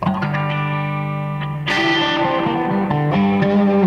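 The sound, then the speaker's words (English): Electric guitar chords ring out through a Flint reverb and tremolo pedal, sustained and washy, with a brighter, louder strum partway through. The playing is steady, with no voices. “Then it goes into a Flint reverb and tremolo.”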